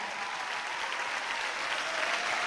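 A church audience claps for every 18 to 35 year old present, in sustained, dense applause, a steady even wash of many hands with no pauses, holding at a fairly constant loudness throughout.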